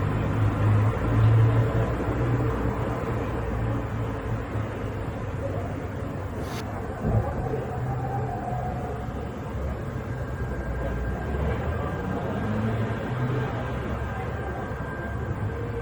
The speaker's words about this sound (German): Ja, und er wohnt offensichtlich in der Nähe eines Bahnhofs. Jedenfalls hört man hier wunderschöne Verkehrsgeräusche im Hintergrund.